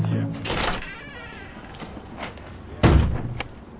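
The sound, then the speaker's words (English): Someone comes in and slaps a light switch on with a loud, sharp bang, following an earlier softer thud of movement, with faint muffled voices in the background. “You always come in like that, bang the light on.”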